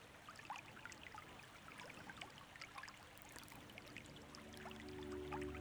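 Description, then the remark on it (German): A small brook babbles steadily, with bright trickling splashes and gurgles over a continuous wash of running water, growing slightly louder toward the end. “Und im Hintergrund plätschert ein kleiner Bach.”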